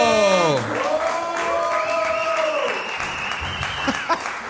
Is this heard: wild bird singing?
no